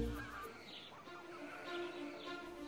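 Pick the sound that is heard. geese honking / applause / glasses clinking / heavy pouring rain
geese honking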